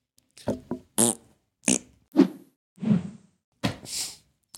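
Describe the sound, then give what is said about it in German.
A rapid string of about half a dozen short farts, each a separate buzzy burst with a different pitch, some sputtering and some low and rumbling. No one speaks. “Und wenn da keiner ist, einfach mal Dampf ablassen.”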